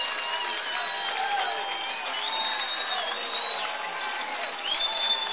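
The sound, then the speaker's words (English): A large stadium crowd at an American football game roars steadily, rising to its feet during a timeout as the defense urges it on: a dense wall of cheering voices with scattered whoops and shouts, holding a loud, even level for several seconds without a break. “The defense prompting the crowd to their feet.”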